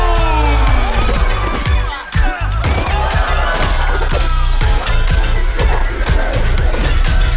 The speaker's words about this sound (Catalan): Un fort aplaudiment per... Bronze!